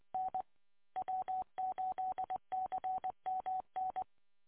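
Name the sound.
telephone dialing tones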